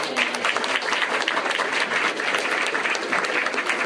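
An audience at an event gives a quick round of applause for someone who arranged the venue, a dense wash of many hands clapping at an even loudness for several seconds without any voices rising above it.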